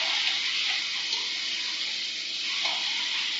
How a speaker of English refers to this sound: You can hear the temperature of the pan has dropped because it's not sizzling so loud anymore. Just keep it moving and stir it every now and again.